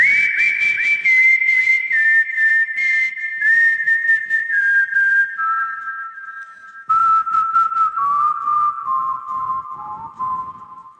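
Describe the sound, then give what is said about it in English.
A person whistles a clear, loud melody in long sustained notes that step gradually lower in pitch, accompanied by a steady rhythmic beat underneath. “It's like everyone can do a whistle.”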